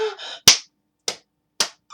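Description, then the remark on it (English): Sharp hand slaps on a bare breast, three crisp smacks about half a second apart with a fourth starting at the end, following a brief voiced sound at the beginning. “Oh, yes, I like when you slap my breast, Daddy.”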